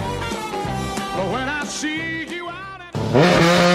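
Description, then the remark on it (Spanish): Several engines rev loudly with rising and falling whines, like race cars roaring past on a circuit, ending in a burst of higher-pitched acceleration with no voices. “Se encienden los motores en el circuito del buen gusto.”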